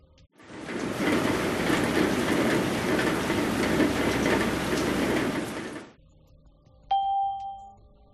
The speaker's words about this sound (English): It's raining.